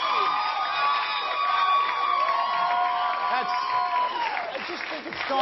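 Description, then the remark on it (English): A loud, sustained wave of audience applause mixed with cheering and whooping voices, filling the whole stretch at steady intensity without letting up. “I want everyone to sit down. Nobody, no clapping.”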